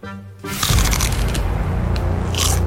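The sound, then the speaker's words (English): A loud crunch of someone biting into crisp celery spread with almond butter, followed by continuous wet chewing and crackling that fills the rest of the moment with no talking. “You've also created, I think, something that's going to crunch up really beautifully on mic.”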